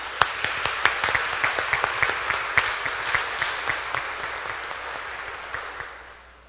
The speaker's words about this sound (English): Let's give your clergy leadership a round of applause.